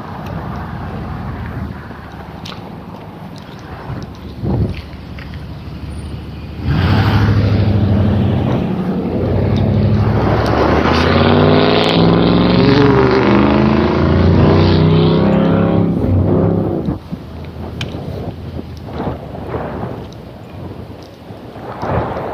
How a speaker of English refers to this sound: See where that truck was going to turn. He turned away from me and then goosed it. Ooh, I'm impressed. Listen to that.